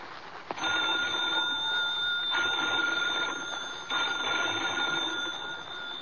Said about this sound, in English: Phone bells ringing urgently in the dimness of the old lighthouse.